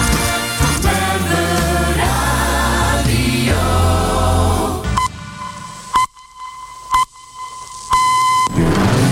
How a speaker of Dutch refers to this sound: De middengolf bruist weer, 963 AM.